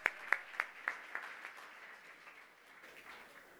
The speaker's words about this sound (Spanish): Dense un fuerte aplauso, son muy buenos estudiantes.